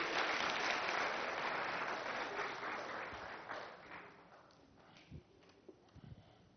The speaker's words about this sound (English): Can you give them a round of applause for what they do?